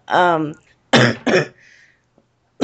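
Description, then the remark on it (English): A short voiced grunt is followed by two harsh, rasping coughs in quick succession, fairly loud, then a brief pause before another burst at the very end. “Yeah, my cough.”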